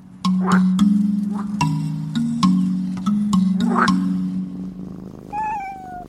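A short plucked musical jingle with a steady low bass line, ending in a brief, clear, descending cat meow as the music fades.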